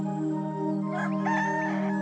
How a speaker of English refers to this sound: With the first golden rays of sun, the noisy rooster begins to crow.